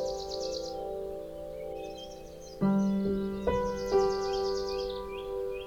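Birds twitter in spring in quick, repeated chirps throughout, set against a steady sustained musical drone that swells louder partway through. No one speaks.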